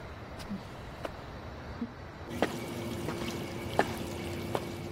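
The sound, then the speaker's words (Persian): Water is poured into a cup or glass for drinking, a steady splashing hiss that grows fuller partway through, with a few small clinks and drips along the way. “اگه میخوای بیا یکم آب بخور، آروم بخور.”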